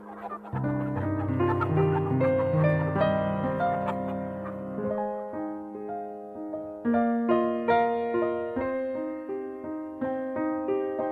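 A recorded song plays steadily and fairly loud, with layered melodic instruments holding and shifting notes in a bright, lilting rhythm and no speech over it.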